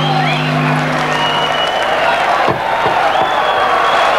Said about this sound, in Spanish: Un aplauso.